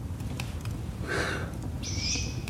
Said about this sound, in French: C'est magique. Tu veux te réveiller dans la nuit pour écouter les chouettes?